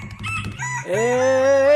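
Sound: rooster crowing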